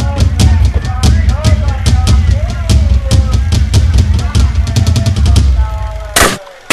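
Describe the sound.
A sharp pop from a toy pellet gun bursting a balloon with a single shot at a balloon-shooting stall rings out near the end, cutting through a busy background of chattering voices, rumbling hum and scattered clicks.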